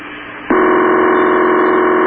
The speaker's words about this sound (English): I say we give them at least 4 more rings or something.